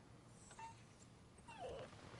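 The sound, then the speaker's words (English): A sick dog whimpers softly, giving a short whine and then a longer, wavering one, faint against a low background hum. “He and the fucking dog is sick.”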